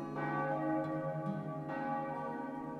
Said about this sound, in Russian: В это время раздался церковный благовест. Еще первые звуки колокола не успели растаять в воздухе, как калитка отворилась, и матушка вышла совсем одетая, чтобы идти на работу.